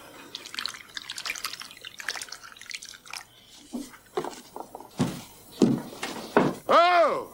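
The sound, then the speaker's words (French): Milk pours into a bowl of ice cubes with a bright, crackling splash and scattered clinks for a few seconds, then short voiced sounds and a rising-falling vocal tone take over at the end. “Mais là, c'est du lait qu'on verse dans un bol de glaçons.”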